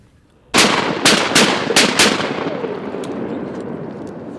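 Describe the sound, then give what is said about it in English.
A quick volley of about five loud, sharp shotgun blasts fires at flying ducks during a duck hunt in water, in under two seconds, each crack ringing out before the sound trails off into a lingering echo, with no talking; a gadwall duck is shot. “shoots a duck, and her British Labrador Skeeter is off to retrieve it.”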